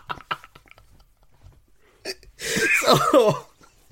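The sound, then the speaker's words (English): A loud, harsh cough bursts out, lasting about a second, after a stretch of faint breaths and small mouth clicks. “Do you want to have a little cough there”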